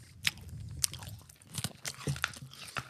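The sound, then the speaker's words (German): Crunching as someone bites and chews a crunchy, sugary SpongeBob sweet into a microphone, with irregular sharp crackles and moist chewing sounds repeating over a few seconds, no talking. “gerne näher ins Mikrofon kauen.”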